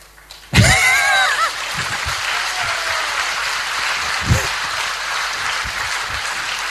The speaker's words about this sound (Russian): Я не знаю, чего вы хлопаете. Чему? Потому что вы еще не убежали, наверное, самому себе.